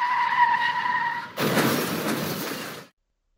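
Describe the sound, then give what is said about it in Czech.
Car tires squeal in a loud, sustained high-pitched screech for over a second as an SUV driving from Klášterec nad Ohří toward Karlovy Vary goes into a skid on 5 December 2020 at 1:45 pm, then cut abruptly into a harsh, broad scraping rush that stops suddenly. No voices. “Řidič SUV jede od Klášterce nad Ohří směrem na Karlovy Vary. Najednou ale dostává smyk.”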